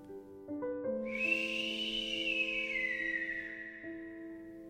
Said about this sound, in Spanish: ¿Qué fue eso? El silbido se escuchaba otra vez, un poco más cerca.